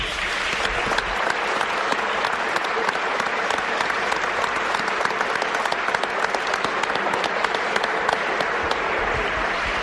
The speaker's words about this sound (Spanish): Y yo quería, para empezar, es el Día Mundial de la Radio. La radio ha cumplido 100 años. Todos somos oyentes de radio. Vamos a darle un homenaje a la radio con este aplauso, ¿no?